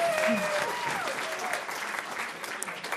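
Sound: audience clapping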